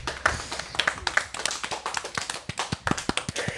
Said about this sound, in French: Merci de nous avoir dit des documents sur les dauphins et un maximum d'applaudissements, s'il vous plaît.